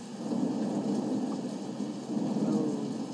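A deep, steady rumble of thunder in Tennessee rolls on for a few seconds, fairly loud and continuous, with a soft hiss like rain underneath and no voices.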